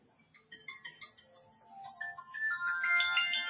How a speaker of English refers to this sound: Sorry about that. Somebody's calling me and I forgot to turn my phone on to mute.